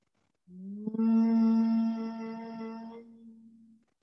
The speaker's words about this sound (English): Continuing to gently hum as we begin the journey to the state of yoga nidra. Taking three more humming bee breaths.